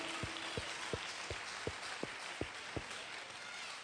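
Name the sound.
audience applauding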